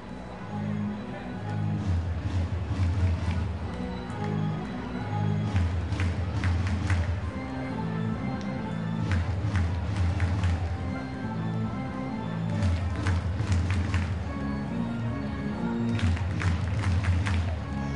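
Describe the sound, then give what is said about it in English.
A large crowd at a baseball stadium in Springfield during a night game keeps up a steady, dense murmur, with louder swells of cheering and clapping returning every few seconds. “Really good crowd tonight here in Springfield.”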